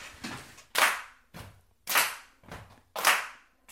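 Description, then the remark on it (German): Ten second-grade children in a music lesson, standing behind their desks, clap in a steady repeating rhythm, alternately slapping their chests and thighs and clapping their hands, the duller slaps alternating with sharper, brighter hand claps, fairly loud, with no talking. “10 Kinder stehen hinter ihren Tischen und klatschen immer abwechselnd auf ihre Brust, ihre Oberschenkel und in die Hände.”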